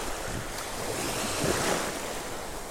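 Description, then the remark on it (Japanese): Steady roar of surf washing onto a beach in the Kerama Islands, a broad continuous wash with a gentle swell midway, mixed with some breezy wind noise and no voices. “こうやって海辺でオリオンビールを片手にですね、こうラジオを撮ってるわけですけども、いやー、時間がゆっくりで本当に”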